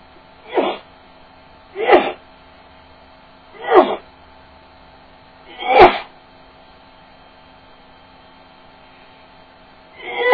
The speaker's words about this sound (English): I could barely tell she was getting wet from my sneezes, or she's wet from me sneezing.